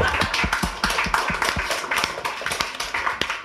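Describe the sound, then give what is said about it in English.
A short burst of applause from a small group, with brisk, overlapping hand claps in a steady patter for a few seconds and no voices. “Round of applause, man.”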